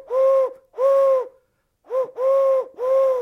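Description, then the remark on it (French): Five soft, hollow cooing notes blown on a bird call, imitating a pigeon: two long coos with a pause, then a short one and two more in quick succession. Clear, no talking. “Et avec un appôt, ça donne cela.”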